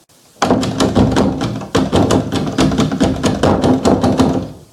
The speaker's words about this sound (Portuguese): Comecei a forçar o trinco da porta do Fusca, tentando abrir. Parecia que estava emperrada.